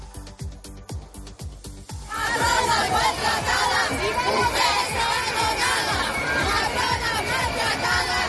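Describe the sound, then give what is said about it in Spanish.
Steady drumbeats open alone, then a large crowd of nurses protesting in the street in Madrid erupts into loud, sustained chanting and shouting over the continuing rhythm. “Y este fin de semana en Madrid, las enfermeras, los enfermeros se han echado a la calle.”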